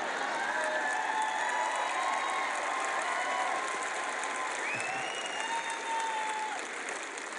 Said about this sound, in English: And if you don't clap loud tonight, I'm going to preach 3 hours.